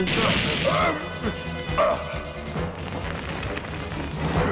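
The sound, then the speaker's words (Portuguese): A dog barks and yips a few times in short bursts, set against a busy, noisy background with clattering and indistinct voices. “Ah, entrou o cachorro.”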